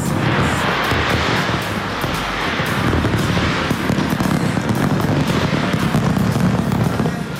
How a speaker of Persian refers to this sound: در استرالیا آتش‌بازی به مناسبت سال نو بر فراز ساختمان اپرای سیدنی که خیلی شهرت دارد صورت گرفت.